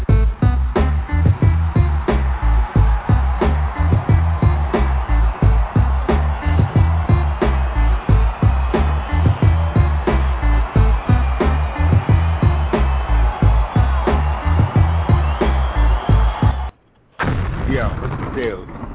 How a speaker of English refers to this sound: Yeah, there you go. There's my crowd noise. I like that.